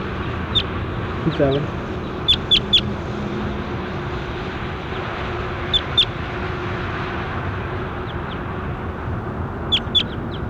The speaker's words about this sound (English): That was bird 27.